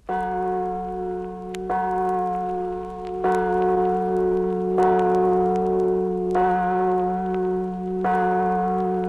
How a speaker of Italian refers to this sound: Ed infine, prima del riposo, del sonno, del silenzio, una preghiera di ringraziamento. La campana dell'Ave della Sera.